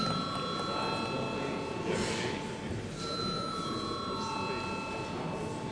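A parliament chamber bell, called for by the chair ahead of a vote on a bill, rings in a steady, unbroken electric tone for several seconds, holding a bright, high pitch at an even loudness over a low background murmur.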